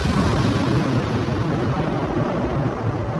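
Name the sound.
explosion sound effect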